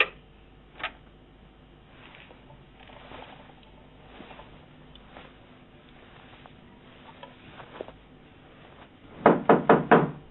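knocking on a door

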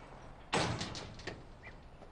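door being closed

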